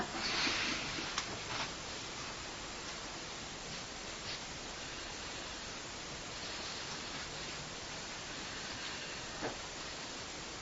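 Bare feet wading through water: a steady wash of sloshing, hissy water noise with a few irregular splashy steps, moderately quiet, with no voices.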